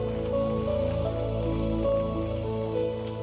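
A church audience gives a clap offering to God, clapping steadily in a dense, continuous patter while sustained keyboard chords play underneath, holding a steady level for several seconds.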